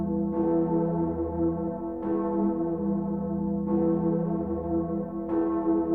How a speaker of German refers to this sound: Oder die Gloriosa in Erfurt, bekannt auch als die Königin der Kirchenglocken.